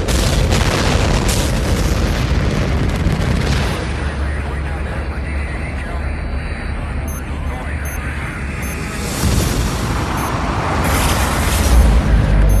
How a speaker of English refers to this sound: Whatever fell out of the sky ended up right behind here. It sounded like several sonic booms.